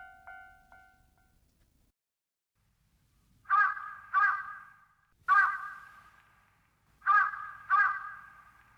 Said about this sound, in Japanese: カラス泣いてますけど。